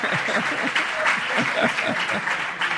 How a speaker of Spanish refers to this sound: Un aplauso a la señora.